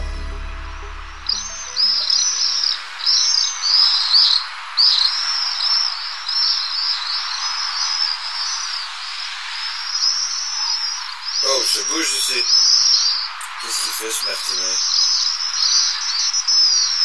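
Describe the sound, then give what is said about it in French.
A thin, filtered outdoor soundscape with the deep tones stripped away after a brief low rumble, leaving steady rhythmic insect-like chirping and occasional sharp bird twitters, continuous and fairly loud. “J'enclenche les filtres convertisseurs.”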